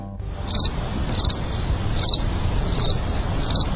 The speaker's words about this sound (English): Crickets.